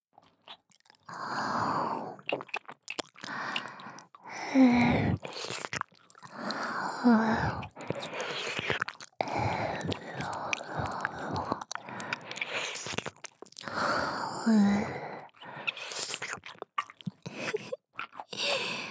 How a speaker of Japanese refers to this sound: では、 こちらのお耳も、レロレロしちゃいます。